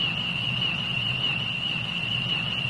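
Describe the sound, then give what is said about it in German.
A newly discovered tree frog species from the Madagascar rainforest gives a sustained, high-pitched whine instead of croaking, holding one steady, slightly wavering tone for the whole stretch, like an electronic sound effect, over a low background rumble. “Sie machen ganz andere komische Geräusche, die erinnern an Soundeffekte aus der Science-Fiction-Serie Star Trek.”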